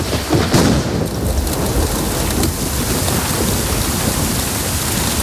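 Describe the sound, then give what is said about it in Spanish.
Steady, heavy rain hisses continuously while a low rumble of thunder rolls underneath, especially early on, giving the dense, full sound of a thunderstorm with no voices. “De repente está soleado y le cae una tormenta como esta sin avisar, granizo, rayos.”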